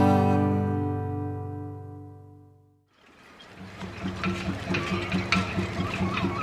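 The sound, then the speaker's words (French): A boat out on the water: a long, deep horn blast fades away, then a steady churn of engine rumble and splashing water carries on at moderate loudness, with no talking. “C'est sûrement le bateau dont nous a parlé Virginie.”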